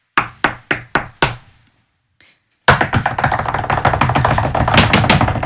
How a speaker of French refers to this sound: Elle toqua à la porte frénétiquement.